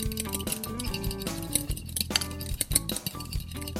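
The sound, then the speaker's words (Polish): A single egg is cracked into a bowl while making croquettes: a few sharp taps and clinks against the rim, over steady background music with no talking. “Do miski rozbijamy jedno jajko, myślę, że tyle na 6 krokietów wystarczy.”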